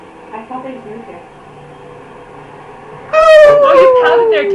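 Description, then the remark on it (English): Faint, muffled talking gives way to a loud howl from a person imitating a dog in a studio, one long wavering cry that slowly slides down in pitch and lasts until the end. “you howl one more time. I will be forced to take you outside, okay?”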